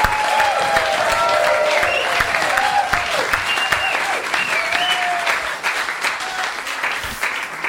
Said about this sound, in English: We also want to thank every single one in our live audience for participating in the program. Now, give yourselves a really loud round of applause, scream, and yell.